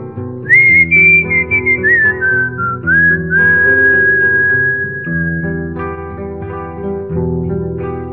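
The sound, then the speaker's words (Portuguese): A person whistles a clear, sustained melody over a steady musical accompaniment, the tune gliding between held notes at a moderate volume. “Qualquer rota que ele siga, se não canta, ele assobia.”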